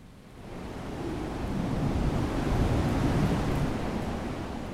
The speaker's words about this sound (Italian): Il vento che urla furioso tra gli alberi diviene implacabile. Soffia a 200 km orari sui tronchi inzuppati e li sradica. Li solleva in un vortice per poi gettarli a terra con un fragore assordante di desolazione. La forza del vento è invincibile.